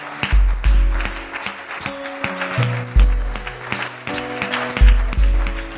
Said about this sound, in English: Why don't you applaud the Lord?